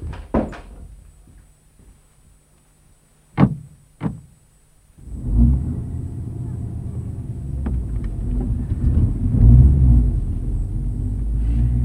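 A few sharp thuds of a car door slamming shut on a car waiting in front of the gate, then its engine starts up and keeps running with a loud, steady low rumble.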